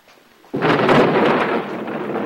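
After a half-second of near quiet, a loud clap of thunder from a storm with lightning over the Ackenthorpe mansion breaks out suddenly and rolls on as a steady, heavy rumble until the end, with no voices.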